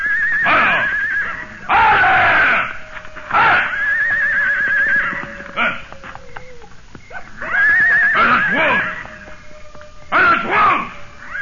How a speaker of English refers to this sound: The screams of the horse made my blood run cold.